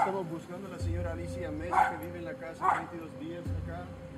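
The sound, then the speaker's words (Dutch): A small dog, walked by a woman along a sidewalk on a hot, sunny day, gives a few short, yappy barks and whiny yips, with two sharper bursts standing out over a steady low hum. “Dan komt er over de stoep een vrouw met een hondje onze kant opgelopen.”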